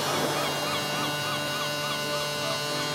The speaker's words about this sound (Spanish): Esa sirena que escuchamos ya en la ciudad portuaria en muchas ocasiones, los barcos que llegan, que se marchan, sobre todo el tráfico de cruceros, que este mes de noviembre es espectacular.